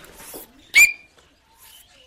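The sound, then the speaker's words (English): A child's voice gives a single sharp, high whistled note, a loud ringing 'tink' imitating an Australian bellbird call, brief, with faint shuffling and a quick spoken word. It is a student's entry in a school competition mimicking native bird calls, in the Bega Valley on the far south coast of New South Wales. “That's the sound of an Australian bellbird.”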